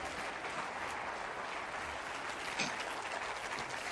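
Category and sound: crowd, audience applause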